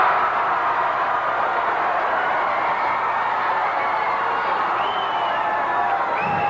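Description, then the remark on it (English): A crowd cheers steadily and loudly throughout, a dense roar of many voices with a few higher whoops and shouts rising above it near the end. “Of course, then again, while these people cheer, they've never been in the position even to get swiped by Lassie's tail, let alone be among stars such as AC Baby and myself.”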